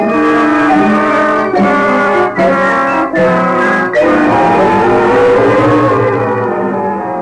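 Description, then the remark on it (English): A loud car engine roars steadily as the car drives north and overtakes a bus, its drone briefly dipping a few times as if shifting gears, then carrying on strongly before easing slightly at the end. No voices. “We drove north and overtook the 1:30 bus after it had traveled a little over 100 miles.”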